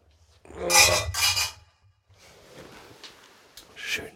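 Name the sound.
beer glasses clinking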